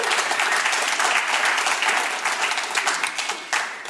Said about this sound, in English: Yes, give him and Jesus a round of applause.